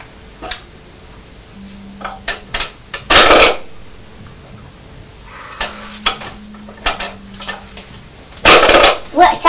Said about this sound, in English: What's that noise? What's that noise? I think it's the noise of you putting all the wooden bricks through the box, isn't it?